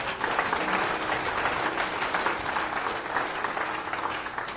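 Steady audience applause at a conference security track as a speaker is invited to the stage for a talk on sandboxing Go modules, a dense patter of many hands clapping at an even level throughout, with no one speaking over it.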